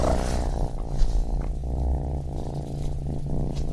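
A cat at a cat cafe purrs steadily while being petted, a low rumbling drone with a soft rhythmic pulse running through the whole few seconds, with no voices over it.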